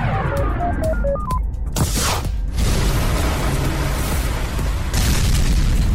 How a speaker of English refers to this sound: Hey, oh, that looks expensive. The test rocket crashed.